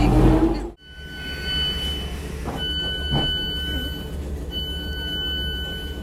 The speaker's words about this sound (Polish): This train is for Guildford. The next station is Ewell West. Właśnie włączyłem nagrywanie. Mam nadzieję, że to się nagrywa z pociągu.